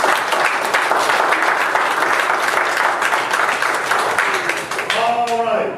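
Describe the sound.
An audience bursts into loud, sustained applause, dense rapid clapping, with a few voices calling out as it tapers near the end.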